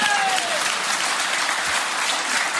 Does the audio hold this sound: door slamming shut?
no